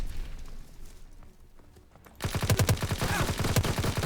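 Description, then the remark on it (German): Rapid bursts of suppressed video game gunfire start abruptly after a quieter stretch, a fast stream of muffled, snappy shots in a steady rhythm that keeps going to the end. “Oh, das Ding macht überhaupt keinen Damage mit Schalldämpfer.”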